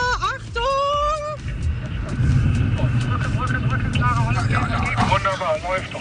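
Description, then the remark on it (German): A car engine rumbles low and grows louder as the vehicle speeds up to 50 km/h, 10 km/h faster, during a driving training exercise, a steady drone with people's voices over it. “Jetzt ist die nächste Aufgabe ja, dass du 50 fährst, also 10 km/h mehr.”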